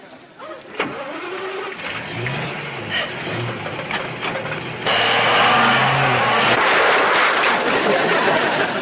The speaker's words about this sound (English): It's a complicated motor vehicle based on the principles of the internal combustion engine, a machine far too complicated for you to understand.